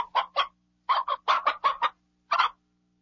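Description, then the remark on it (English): A chicken clucks in quick, uneven bursts: a couple of short clucks, a pause, then a busier run and one last cluck, clear with nothing else around. “Eggs come from chickens.”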